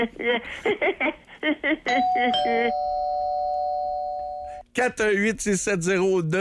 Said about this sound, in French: Allô? Ding dong.